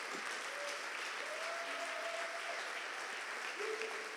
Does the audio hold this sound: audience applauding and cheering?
yes